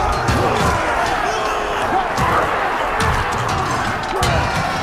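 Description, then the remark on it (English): Chaotic close-quarters battle: Banquo punches and stabs his way forward while Macbeth hacks down attacking rebels with his sword. Repeated heavy blows and strikes land in quick, irregular succession over a constant roar of shouting men, loud and dense throughout. “Banquo punches and stabs his way forward as Macbeth hacks down the rebels who attack him from every angle.”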